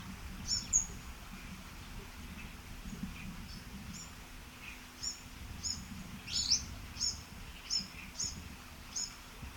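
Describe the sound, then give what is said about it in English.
Birds trade sharp, high chirps back and forth in a territorial dispute, an interspecific interaction with an orange-crowned warbler, the short calls coming in quick irregular bursts over a steady low rumble of outdoor background noise. “Actually, it was an interspecific interaction with an orange-crowned warbler.”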